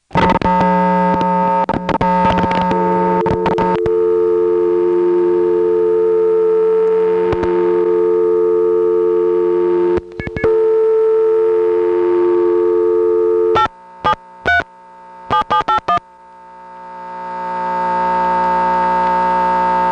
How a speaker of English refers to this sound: Yes, that's right. This payphone has a double line. It's got a Smyrna Step line on it, but there's also an ESS line here. That's what was causing all that clickety-clickety stuff when we were first picking up the phone.